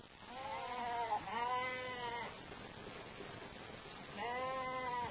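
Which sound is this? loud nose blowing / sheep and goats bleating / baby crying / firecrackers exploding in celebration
sheep and goats bleating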